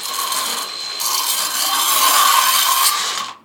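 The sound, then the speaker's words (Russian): A knife blade is sharpened against the edge of a disc driven by a cordless screwdriver, drawn from the handle toward the user at a fixed angle, in one continuous, gritty metallic scrape lasting about three seconds, swelling slightly midway before stopping abruptly. No one speaks. “И не меняя угла, опять же, рукой, от ручки на себя производим заточку.”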